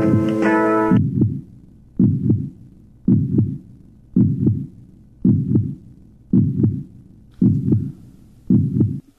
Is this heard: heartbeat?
yes